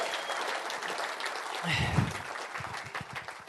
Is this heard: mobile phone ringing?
no